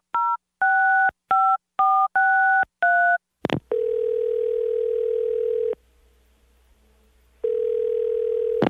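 Six quick two-pitch beeps from a telephone keypad being dialed to call someone, followed by a steady electronic phone tone that holds for two seconds, drops out briefly, then returns. Clear, with no voices.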